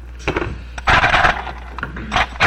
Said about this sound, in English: You see it? He just took a piece of bone like that, or an antler, and just grated that right in there like that. snap the chips right off. Just as a modern-day glass cutter will trim a piece of glass that's too large or doesn't break quite right.